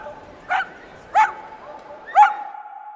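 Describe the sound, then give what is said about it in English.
Dogs bark at a dog park in the Bay Area: three sharp, separate barks about a second apart, over a faint steady background hum with no talking. “And finally, after an afternoon of pampering, it's time for a well-deserved trip to the dog park just around the corner.”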